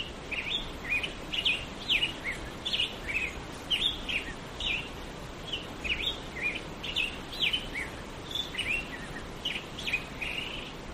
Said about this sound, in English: The grosbeaks start singing around daybreak. And here's a recording I made of what it sounds like out there. And you can hear the gentle white noise of the creek in the background.